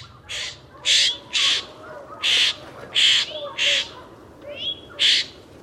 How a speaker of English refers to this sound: Here is the Florida scrub jay, recorded this from 2009 in Marion, Florida.